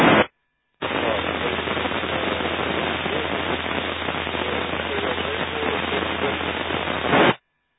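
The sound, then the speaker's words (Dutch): Steady, dense radio static hisses for several seconds after a short dropout near the start, with a faint station buried too deep in the noise to make out. “Even horen wie dat was, die ver in de ruis zat, ga je gaan.”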